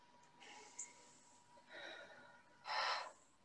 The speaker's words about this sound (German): Dann atmet einmal, 3-mal tief ein und aus.